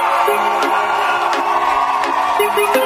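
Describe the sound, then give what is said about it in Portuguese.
A large crowd shouts and cheers loudly and without pause, a dense, steady roar of many voices with individual yells rising briefly above it now and then. “Mas e lá em cima, se quem tá feliz, não grita, é, vai!”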